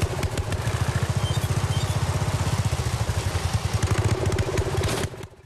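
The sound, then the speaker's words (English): A lawn mower's small engine chugs loudly in a rapid, rough rhythm, sputtering along for several seconds before abruptly dying away to near silence as black smoke bursts from the engine and the mower slows to a stop. “A cloud of black smoke bursts out from the engine and the mower slows to a stop.”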